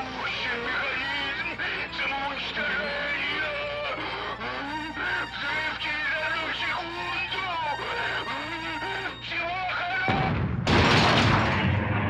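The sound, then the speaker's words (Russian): A dense, layered bed of tonal sound plays for about ten seconds, then a loud, sudden molecular explosion in a corridor bursts in and rumbles out through the final two seconds. “В коридоре сверкнула ослепительная вспышка молекулярного взрыва.”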